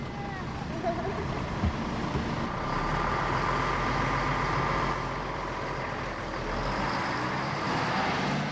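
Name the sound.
school bus pulling up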